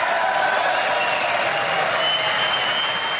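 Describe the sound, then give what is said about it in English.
Steady applause from a legislature audience during a political address fills the whole few seconds, a dense, even wash of many hands clapping at constant loudness with no voices rising above it. “I'm going to leave this applause playing just to give you the soundtrack for what I'm talking about here.”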